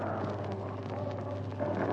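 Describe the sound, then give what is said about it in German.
A racing car driven by Fagioli roars past during a motor race, its engine a loud, steady, rumbling drone that fills the whole moment without pause, with no voices over it. “Sie hörten eben Fagioli vorbeifahren.”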